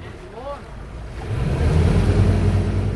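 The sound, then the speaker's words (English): Water laps and sloshes steadily at the edge of the Dog River, where it empties into Mobile Bay, as residents pull fishing boats out of the water ahead of a storm; a continuous wash with a low rumble that grows slightly louder, and a brief high chirp near the start. “across the county at the water's edge, Ted Lawson and other residents were pulling their fishing boats out of the water on the Dog River”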